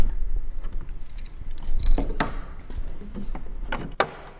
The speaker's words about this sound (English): walks up to a black grand piano on a brightly lit stage. She unlocks the cover over the keys and pushes it back.